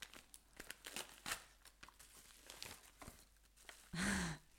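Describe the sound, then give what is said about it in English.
Crinkling and tearing of Christmas love-heart wrapping paper and bubble wrap as a present is unwrapped, a dense run of sharp rustles and crackles, ending in a louder, longer rip or crumple. “I love a little bubble wrap. It's bubble wrap.”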